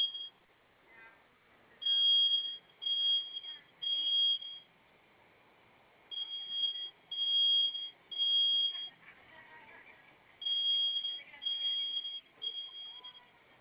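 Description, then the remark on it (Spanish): A high-pitched alarm beeps in repeated bursts of three loud tones with pauses between them, a temporal smoke-alarm pattern, with faint background noise and some muffled talk underneath; one of several alarms, still sounding after a code was entered and about to be silenced. “Ok, esa que está sonando ahorita en un momento se va a silenciar.”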